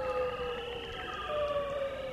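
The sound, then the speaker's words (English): An eerie underwater mating call of a male bearded seal, recorded in spring by a microphone dropped through the ice off Diomede Island in the Bering Sea: long, wavering tonal whistles that slowly glide and sweep in pitch, steady and fairly loud with no voices, like a drawn-out otherworldly siren. “In the springtime, if you drill a hole through the ice off Diomede Island and drop a microphone in the Bering Sea, you're likely to hear some strange sounds, including the eerie mating call of the bearded seal.”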